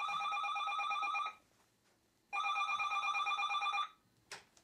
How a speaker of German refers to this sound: Das Telefon klingelt pünktlich zum gebuchten Termin.